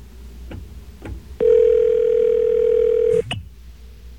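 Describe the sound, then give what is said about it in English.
A single ringback tone on a phone line after bypassing the BAI phone system, a steady mid-pitched electronic buzz lasting nearly two seconds, preceded by a few faint line clicks, with no voices. “Okay, we have bypassed the system, and hopefully now we are ringing”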